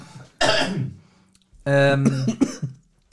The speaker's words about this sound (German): Siehst du? Von Schokolade muss man husten. Ja, das ist ja wirklich. Schokolade, ne? Reizt mein Hals. Also mein Hals.